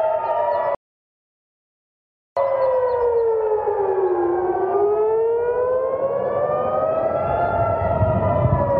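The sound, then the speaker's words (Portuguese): Air raid sirens sound in Israel as rockets are launched at Israeli territory, wailing loudly with slowly rising and falling tones, briefly cutting out near the start before resuming, over a rumbling background with no voices. “Como prova, foguetes voltaram a ser lançados contra o território israelense e sirenes soaram além.”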